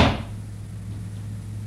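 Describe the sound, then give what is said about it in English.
A door shuts with a single dull thump at the start, followed by a steady low hum with no voices. “Let's go back to the door.”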